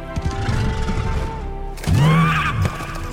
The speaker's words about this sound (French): Et il est apparu, sous la forme d'un puissant cheval. Il semblait être entièrement constitué d'eau de l'océan. Il se promenait sur le rivage. Ses yeux brillaient d'un bleu majestueux.